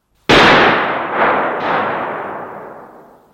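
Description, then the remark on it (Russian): Three gunshots fire in quick succession at dawn in a snowy village: a sharp, loud first blast, then two softer reports rolling into a long echoing tail that fades slowly, with no voices. “Выстрелы один за другим прозвучали на рассвете.”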